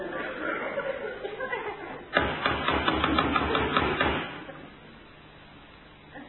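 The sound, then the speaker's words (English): A voice talks briefly, then someone knocks loudly and rapidly on a house's front door for about two seconds before stopping abruptly, leaving quiet. “He might be knocking at the wrong house.”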